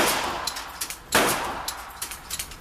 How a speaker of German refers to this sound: Auf dem Schießstand explodiert die Pistole Marke Eigenbau.